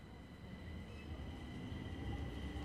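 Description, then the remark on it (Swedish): A steady rumble of a subway train in motion, heading to the central station, with a continuous low roar and a faint high whine running through the full few seconds, no voices. “Först tar han tunnelbanan till centralen och där på golvet ser han något.”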